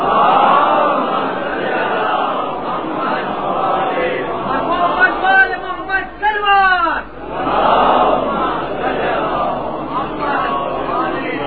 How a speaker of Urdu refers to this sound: ابھی نعرہ نہیں نعرہ نہیں نعرہ ایک نتیجے پر اور وہی فیصلہ کن نعرہ ہوگا. پھر میں آپ کو اجازت دوں گا جتنے چاہے آپ نعرے لگائیں